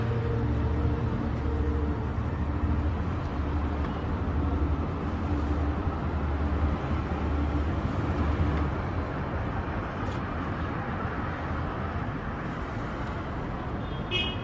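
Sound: car interior ambience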